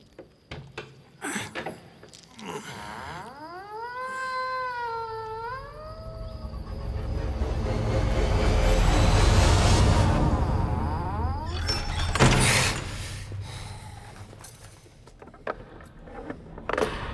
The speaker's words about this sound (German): Knarzend öffnete der Verwalter die schwere Eichentür.